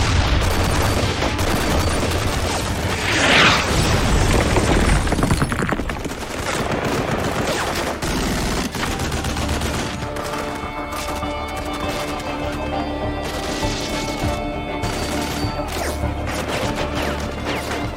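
heavy gunfire

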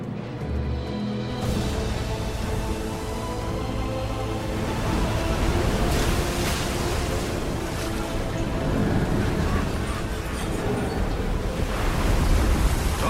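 ocean waves at sea

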